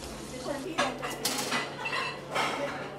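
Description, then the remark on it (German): Metal pots and cutlery clatter and clink in a busy, irregular rhythm, with sharper bright clanks standing out over a steady low hum, as a stew (guiso) of carrots, potatoes, onions and chicken wings is cooked in a large, dented tin pot over an open fire. “Alles kommt in einen großen, verbeulten Blechtopf, brodelt über offenem Feuer.”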